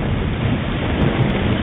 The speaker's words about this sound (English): Wind and rain and surf.